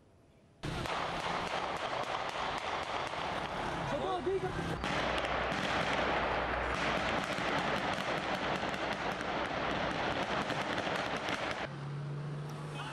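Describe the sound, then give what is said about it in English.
Smoke grenades fired by Turkish police go off in a chaotic street clash with Kurdish protesters in the town of Cizre, southeastern Turkey, a rapid string of sharp pops and bangs layered over dense, roaring crowd noise and shouting that stays loud throughout. “Turkish police have used water cannons and smoke grenades against Kurdish protesters angry at Ankara's plans to erect a wall near the border with Syria.”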